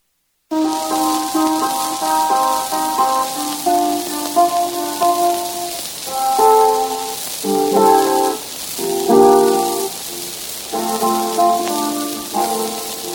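A scratchy old blues record plays, a constant crackly hiss running under strummed guitar and long, wavering melodic notes that rise and fall in short phrases.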